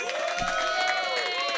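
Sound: audience cheering and applause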